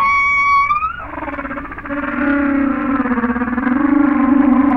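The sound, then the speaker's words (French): A nightingale's song slowed down electronically by a detector in time-expansion mode, turned into long, low, gliding tones with a whale-like moan: a rising wail, then a sustained wavering drone that swells steadily, with no voices. “Je suis en expansion de temps, j'entends une baleine, donc c'est un rossignol.”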